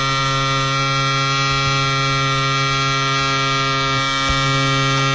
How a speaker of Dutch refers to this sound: Scheerapparaat. Oh. Moet ook gebeuren 's ochtends. Ja, het zie je als je dingen van heel dichtbij opneemt dat het soms heel heftig klinkt.